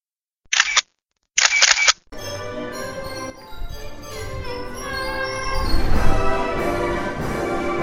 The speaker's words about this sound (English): Well, I think it might be the new it might be the new Coaster Gallery tradition to end each podcast at an amusement park with the carousel music. Well, my day is wrapping up here at Canopy Lake.